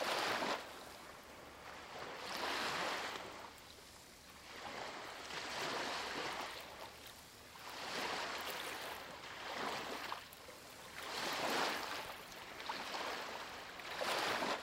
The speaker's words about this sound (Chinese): 也许一片海浪带来了一只贝壳，它停留在海滩上，新的浪花来到时，它又被卷起，再一次被带回海里。